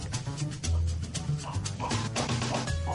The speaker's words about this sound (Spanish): Ladra un perro. Ladra, bueno. Ladran Sancho, ¿eh?